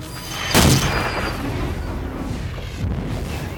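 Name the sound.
artillery fire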